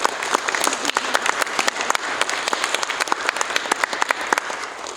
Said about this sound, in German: Okay, es gab ein paar Pfiffe für die Feuerwehr, also Feuerwehr hat gewonnen, glaube ich. Ihr müsst auch nicht nur klatschen, ihr könnt euch auch anderweitig eurem Enthusiasmus Ausdruck verleihen